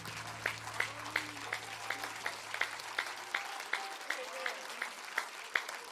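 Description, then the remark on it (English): An audience applauds to worship the Lord before a Pentecost sermon, with a dense wash of clapping and sharper claps landing in a steady, almost rhythmic pulse. A low hum sits underneath for the first half. “Let's worship the Lord with an applause to Him, and we're going to dig into the Bible.”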